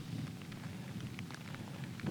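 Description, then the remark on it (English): Steady rain falls with scattered drops pattering against a surface over a low, continuous rumble, like a storm. It's moderately quiet, and no one speaks. “It talks in the wind and the rain and says thank you.”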